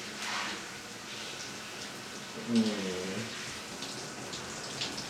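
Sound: shower water running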